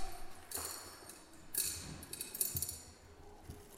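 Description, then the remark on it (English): Marbles, some with bells inside, clink into a lidded container as it is filled, in a few bright, glassy hits spaced irregularly, with some faint rattling between them and no voices. “There, we can still get some marbles in.”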